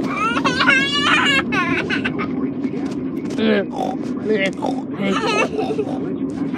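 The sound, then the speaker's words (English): A voice imitates a pig with a rapid run of oinking, grunting syllables, bright, while singing Old MacDonald Had a Farm, mixed with lively sing-song vocal sounds against a steady low background hum. “With a oi, oi, oi, oi.”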